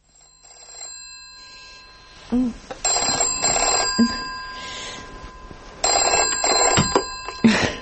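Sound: telephone bell ringing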